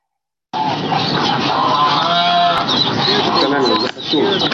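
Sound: ducks quacking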